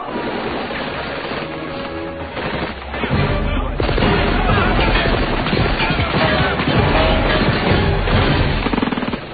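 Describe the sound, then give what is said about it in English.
A cinematic explosion erupts a few seconds in, a deep booming blast followed by sustained loud rumbling and crackling, layered over an already busy, noisy action soundtrack with no clear speech. “We had a lot of difficulty with this scene with the timing that explosion, I remember.”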